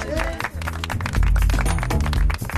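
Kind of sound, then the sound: crowd, applause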